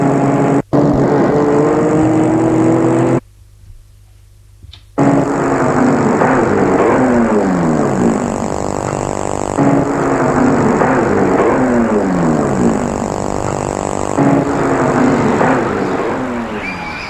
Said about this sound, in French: Philippe a arrêté sa voiture devant l'immeuble de Marie.